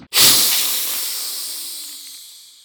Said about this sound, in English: And from behind her, 8 large legs stretch out, lifting her body off the ground. Her jaw splits in two, and an open maw hisses at you.